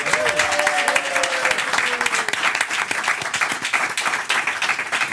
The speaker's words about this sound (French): Ils sont ensemble sur la scène du Théâtre de Paris à l'affiche de Localement Agité, une pièce idéale pour lutter contre les dépressions passagères. Applaudissements pour Lisa Martineau et Thierry Frémont.